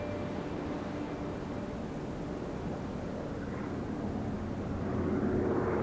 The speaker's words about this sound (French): Deux jours après le crash, dans l'après-midi, un bruit de réacteur. Les rescapés lèvent les yeux, un avion les survole.